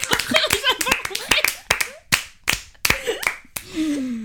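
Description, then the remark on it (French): Scattered, uneven clapping from a small group of people for the women who run the embroidery group Sista Brod, sharp separate claps rather than a steady roar, with some voices calling out and whooping between them before it trails off. “Excusez-moi, vous vous applaudissez pas.”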